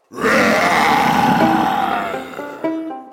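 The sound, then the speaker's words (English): A stone lion lets out a deep, raspy, mighty roar that bursts out loudly and holds for about two seconds before fading, trailing off into a few brief, steady tonal notes. “The lion paused, fixed Uncle with its round stone eyes, then let out that mighty roar.”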